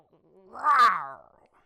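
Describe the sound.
A person imitates an animal growl given as the name of a wild girl of the forest: one rough, rumbling vocal snarl that swells and fades over about half a second, alone against silence.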